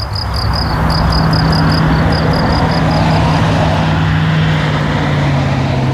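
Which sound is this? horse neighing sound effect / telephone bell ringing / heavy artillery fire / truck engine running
truck engine running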